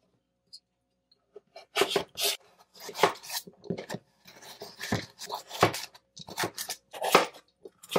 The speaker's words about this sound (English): All right, let's go ahead and chop these up into our cubes. And I'm just following the natural little grooves here.